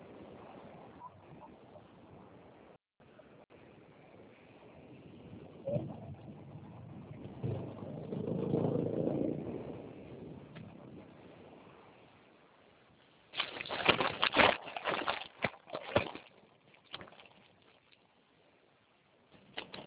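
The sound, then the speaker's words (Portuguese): Outdoor street ambience with a steady wash of noise, a vehicle rumbling past midway, a few faint bird calls, then a cluster of sharp bumps and rustles near the end, as a person on a phone call in the street goes to get into a car. “Ah, eu estou na rua, só um minutinho que eu vou entrar no carro, porque eu não estou ouvindo nada.”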